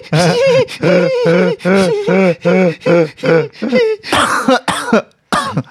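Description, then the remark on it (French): Loud bursts of coughing from one person: a rapid string of voiced, hoarse hacks followed by rougher, harsher coughs and throat clearing, with brief pauses near the end. “Vous voulez une petite pilule pour pas se faire passer la toux?”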